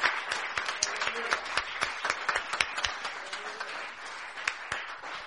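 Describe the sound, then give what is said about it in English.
A crowd applauds steadily for several seconds, a dense, even wash of many hands clapping with faint scattered voices cheering underneath, moderately loud. “I think you guys can give a better cheer than that.”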